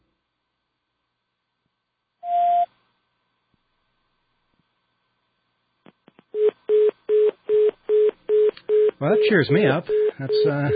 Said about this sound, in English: That's the sound of a circuit busy over in England, I think.